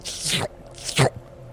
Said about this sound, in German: Es dreht sein Maul sowie sein riesengroßes einzelnes Auge in deine Richtung und streckt seine Zunge raus. Und ich gebe ihm Wasser. Es schlabbert das Wasser in sich rein